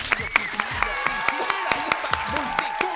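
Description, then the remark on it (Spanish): Sharp claps ring out at a brisk, fairly regular pace while several raised voices shout and cheer over them, an excited audience applauding Mexican entertainment presenter Gil Barrera on a live show on 8 November 2018. “Un aplauso para el querido Gil Barrera.”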